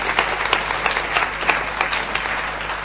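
An audience applauds steadily, a dense patter of many hands clapping at once, fairly loud and sustained throughout, with no voices standing out.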